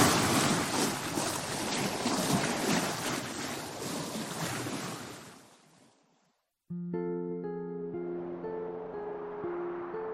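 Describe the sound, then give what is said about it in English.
A boat sails over rushing ocean waves with wind noise, a loud, steady wash that fades away after about six seconds. Following a brief silence, a gentle melodic tune begins. “I am about to sail for Shadow Canyon.”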